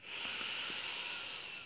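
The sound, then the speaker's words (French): A long, steady deep breath drawn in through the nose while filling the belly and chest, soft and airy with a breathy hiss, sustained for nearly two seconds and heard alone. “Prenez une profonde inspiration en gonflant le ventre et la poitrine.”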